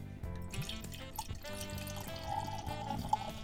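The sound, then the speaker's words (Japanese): White wine, a 2023 Château Mercian Hokushin Chardonnay, pours steadily into a glass for a few seconds, a continuous trickle with a bright ringing tone as the glass fills, plus a small clink near the end. “はい、 早速グラスについてみたいと思います。”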